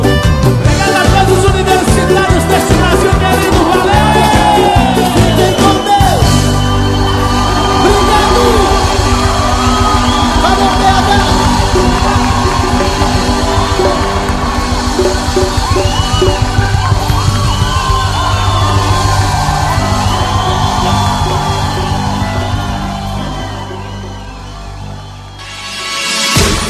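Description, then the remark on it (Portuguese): Loud football fans cheer and shout, starting with rhythmic drum-like bangs, then a dense, sustained roar of yelling voices with steady horn-like tones, dipping briefly near the end. “Torcida se encontra por aqui.”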